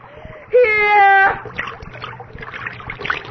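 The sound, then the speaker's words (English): A sustained moaning wail rises briefly, then gives way to wet splashing as blood is poured, the liquid continuing unevenly at a moderate level. “By the prince of the air, by the little spirit, come to the virgin blood we pour for you.”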